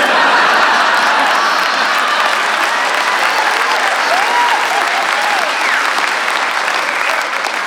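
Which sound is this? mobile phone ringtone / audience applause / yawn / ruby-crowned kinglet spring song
audience applause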